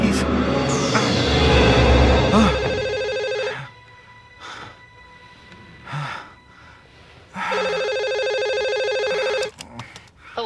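A telephone rings twice before an answering machine picks up, each ring a loud, bright electronic trill lasting a couple of seconds, separated by a pause of quiet with faint rustling and breaths.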